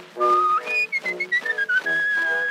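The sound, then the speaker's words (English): A man whistles a bright, wavering tune on an old Edison phonograph record, sliding between sustained high notes with short breaks, while a band plays softly underneath. “He'd whistle night and day in his own peculiar way.”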